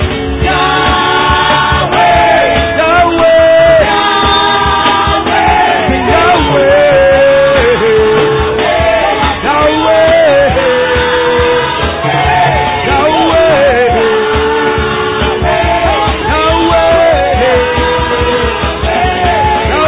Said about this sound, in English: You're not shouting for nothing. You're not shouting for nothing. You're the victorious one.